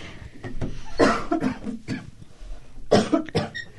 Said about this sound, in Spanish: Justo iba a hablar y me ganó la tos.